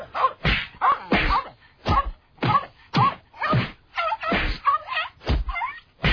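A rapid series of about a dozen punching slap hits, sharp and meaty, landing in a fairly steady rhythm. They are loud, with no talking.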